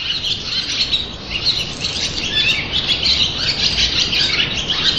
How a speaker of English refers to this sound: if you go there when there are no other people there, in the gatehouse, there's the most wonderful sound of swallows, and you maybe get 20 or 30 swallows all roosting in there and all singing together, and I love that sound.